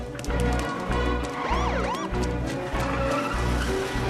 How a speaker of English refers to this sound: They come to a halt. Another squad car pulls up. They're trapped.